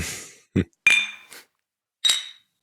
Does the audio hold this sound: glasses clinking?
yes